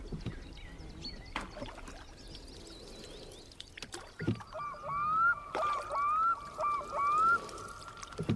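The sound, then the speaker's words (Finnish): Oars dip and splash in water, then a squeaky oarlock creaks out a rising chirp with each stroke in a steady rhythm of about one per second, as a boat is rowed in the evening toward a water-lily bed on the opposite shore to check fish traps. No one speaks. “Soutaa syssyttelen vastarannan lumpeikkoon, missä muutama pyytö odottaa ahvinien uivan nielusta sisään.”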